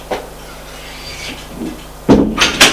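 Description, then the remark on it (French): A door into a drawing room opens with a faint creak and rustle, followed by a loud thud and a couple of sharp knocking clatters as it swings and settles. “Et elle ouvre une porte.”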